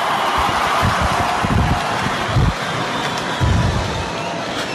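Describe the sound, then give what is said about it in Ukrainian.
A vast crowd awaiting the announcement of the new pope's name fills the air with a steady, dense roar of murmuring voices, no single speaker standing out, with a few deeper rumbling swells rising and falling underneath. “Чуємо цей натовп, який очікує ім'я нового папи, і зараз почуємо, власне, це оголошення.”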